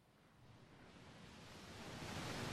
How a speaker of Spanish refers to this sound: Unas cuantas olas para refrescar el ambiente.